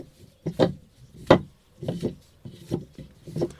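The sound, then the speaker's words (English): A carved wooden pulley turns with its rope, which has a plastic water bottle tied to its end, giving a series of dry, knocking creaks in uneven bursts, two sharper clacks standing out among softer rubbing thumps, with no voices. “and the plastic handle is attached to a rope, and the rope leads up to a wooden, a beautiful carved wooden pulley. I wonder if I can make it make a sound.”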